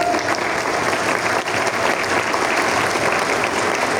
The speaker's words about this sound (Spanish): nuestras abogadas, nuestras psicólogas, un aplauso para ellas.